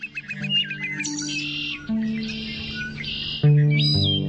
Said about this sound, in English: Joy is the last song drifting in as dark curtains fall, the sparrow's vesper offering, whistle laying down in pine-templed woods.